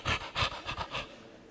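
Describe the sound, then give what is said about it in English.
A voice imitates an exhausted dog's heavy panting: four quick, breathy huffs in a steady rhythm, fairly loud, then fading to quiet. “And one of the farmer's friends came up to him and said, "Man, that trip into town sure must have worn out your dog."”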